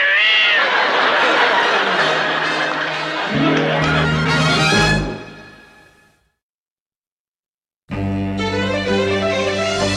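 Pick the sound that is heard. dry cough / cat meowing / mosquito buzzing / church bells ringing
cat meowing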